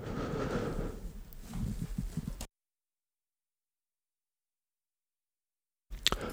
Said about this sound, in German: Das war eine kurze Räusperpause. Das muss man vielleicht auch mal zwischendurch machen können, wenn man einen sogenannten Frosch in dem Hals hat.